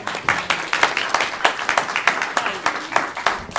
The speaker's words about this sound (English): A big round of applause again, please.